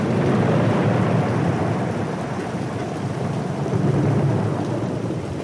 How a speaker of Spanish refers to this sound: Ahora solo escuchamos lluvia y truenos, porque el tren viaja en una noche de tormenta.